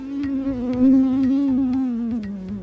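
A steady mosquito buzz drones on without a break, its pitch wavering slightly, with faint rhythmic ticking underneath and no voices.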